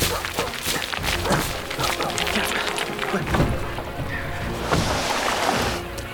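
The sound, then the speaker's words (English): A small rowing boat pushed by oars moves through water with steady churning and splashing, irregular sloshes rising and falling over a constant wash, moderately loud throughout. “Get in the boat! Quickly!”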